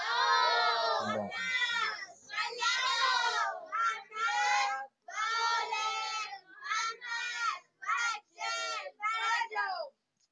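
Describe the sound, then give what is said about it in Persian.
A large crowd recites the third salawat blessing together in loud unison, voices rising in a series of rhythmic chanted phrases separated by short pauses, with no single speaker standing out. “صلوات سوم رو توجه بیشتری خط بفرمایید.”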